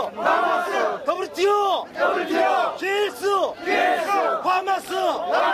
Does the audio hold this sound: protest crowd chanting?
yes